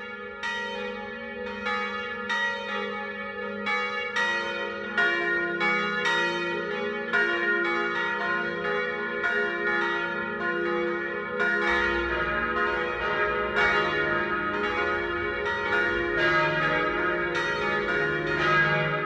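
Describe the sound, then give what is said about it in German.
Church bells ring the noon peal in Traunreuth, Upper Bavaria, in a full, overlapping ring, several bells striking in steady succession with a long resonant hum beneath, loud, with no voices. “Das Mittagsläuten kommt heute aus Traunreuth in Oberbayern.”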